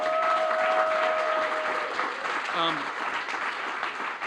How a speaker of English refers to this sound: So give Claire a big round of applause.